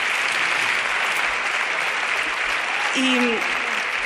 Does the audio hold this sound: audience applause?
yes